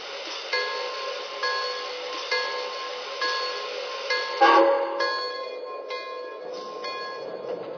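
A passenger train, train number two, the Pennsylvania Limited, sits on track one at a station platform in Philadelphia, with a steady mechanical hum, regular clanks about once a second, and a louder rushing burst midway. No one speaks.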